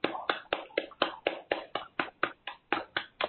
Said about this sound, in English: Next to your right side neck, start clapping.